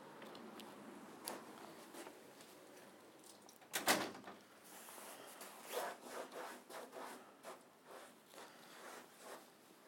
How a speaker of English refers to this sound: Right, we can move this cone away to shut the door.